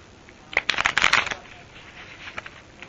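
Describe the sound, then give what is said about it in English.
A quick burst of card shuffling, a dense flurry of crisp riffling snaps lasting about a second, fairly loud, followed by a few softer scattered taps and quiet handling. “Some of them are flipped over. Mm-hmm. I'll shuffle them up real quick.”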